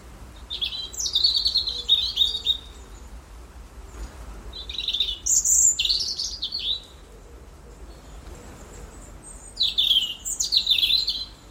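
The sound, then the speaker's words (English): Robins sing in autumn territorial song battles, alternating bursts of thin, warbling phrases, several short songs answering one another in turn over a soft, steady outdoor background hiss, with no voices present. “The autumn song battles of robins.”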